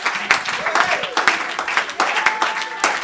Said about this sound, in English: Everybody ought to be hand clapping and foot stomping on that.